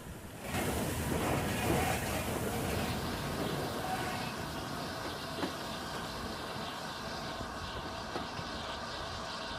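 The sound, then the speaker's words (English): A steam train rumbles steadily across a bridge spanning a road in a town, a broad continuous roar with rattling texture and faint clanks, sustained throughout with no voices. “Streets and houses spread out below the track on the right-hand side of the train, which then steams across a bridge spanning a road in the town.”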